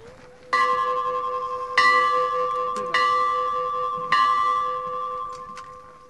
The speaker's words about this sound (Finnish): Tässähän julkisen sanan edustajien iloksi kilauttaa pari kertaa asemarakennuksen seinään kiinnitettyä kelloa, jota venäläiset käyttivät lähettäessään junia matkaan Kirkkonummen asemalta.